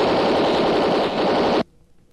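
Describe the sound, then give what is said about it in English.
A loud burst of rapid Tommy gun (machine gun) fire rattles continuously for about a second and a half, then cuts off abruptly into near silence. “That machine gun won't do you any good, Race.”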